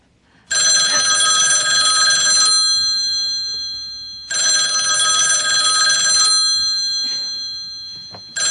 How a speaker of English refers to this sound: She goes to answer the phone.